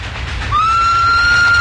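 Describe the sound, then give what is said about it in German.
A train rumbles steadily along the rails, a low continuous roar, and about a third of the way in a sustained high whistle rises and holds over the noise to the end. “Die Eisenbahn ist immer noch das sicherste Verkehrsmittel”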